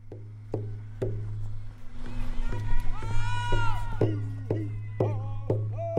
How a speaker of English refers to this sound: A crowd of people are carrying signs and singing as they leave the Fairbanks Native Movement Center, a nonprofit organization focused on community education and social justice advocacy. As the group heads deeper into downtown, the wind picks up,